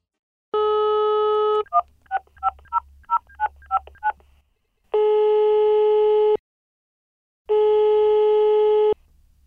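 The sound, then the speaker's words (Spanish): A telephone dial tone gives way to a quick run of eight keypad beeps, then two long, steady ringing tones with a pause between them, clear, with no voices: a phone call to a hotel in Ibiza to book a room. “Hemos visto un hotel en internet que nos gusta y llamamos por teléfono para hacer una reserva.”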